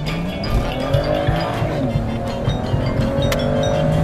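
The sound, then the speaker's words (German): A car engine revs hard and climbs steadily in pitch as the car accelerates at full throttle with kickdown on a straight, reaching about 150 over roughly 500 metres, heard from inside the car with a loud, continuous roar and road rumble. “Wir können einmal ganz kurz auf der Geraden voll durchbeschleunigen, wenn Sie es mal wollen.”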